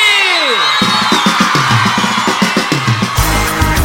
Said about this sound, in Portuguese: A torcida brasileira tá aí!